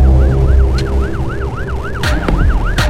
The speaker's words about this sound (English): The last thing she remembers as she falls unconscious is the sound of sirens coming down the street.